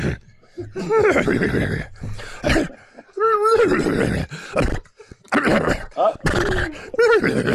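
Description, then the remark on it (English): The horse Kulumanati whinnies repeatedly over a phone on loudspeaker, a series of loud, wavering neighs and snorting bursts with brief pauses between them, the pitch rising and falling in shaky harmonic calls. “You know, that normally happens when he sees the filly.”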